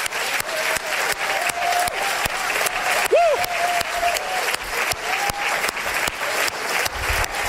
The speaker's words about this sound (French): Frères et sœurs, venons, on applaudit Jésus.